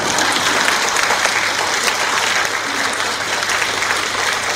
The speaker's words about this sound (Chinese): 我最后那句话是：谢谢你们的鼓励的掌声。